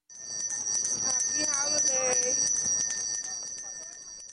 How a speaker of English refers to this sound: The sound of a Salvation Army bell ringer outside the Macy's store in New York's Herald Square today.